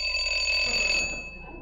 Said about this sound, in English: I rang the bell.